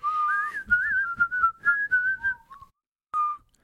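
Someone whistles a lilting tune, with wavering pitch and short phrases, ending after a brief pause with one final held note.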